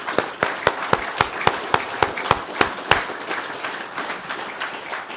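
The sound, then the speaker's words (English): An audience at Calvary Chapel Fargo applauds, with one loud, steady rhythmic clap standing out above the crowd for about three seconds before the applause carries on as a dense, even patter. No one speaks. “Can we just show of applause? I mean, just some applause, and just thank you for the guys that serve here.”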